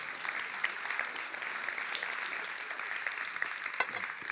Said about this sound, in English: Clap, clap, clap, clap, clap, clap, clap, clap.